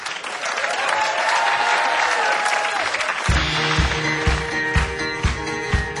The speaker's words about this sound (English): And give yourselves a huge round of applause as well, guys, for being such a great audience. Well done to you.